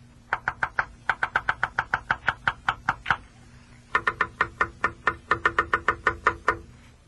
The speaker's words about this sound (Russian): Слышите? Отвечает. Слышу! И что это значит? Это моя дятлиха мне стучит. Пора, мол, нам с тобой своим гнездом обзаводиться.